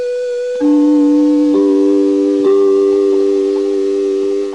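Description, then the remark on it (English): NBC broadcast network identification chimes heard on a tape, the fourth chime sequence, played as the notes B, D, G, G: clear, bell-like tones struck one after another, each ringing on and overlapping the next, then sustaining together to the end, with no talking. “I therefore assumed that the fourth chime sequence would be G, E, C, C.”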